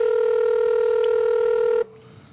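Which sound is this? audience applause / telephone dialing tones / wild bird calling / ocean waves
telephone dialing tones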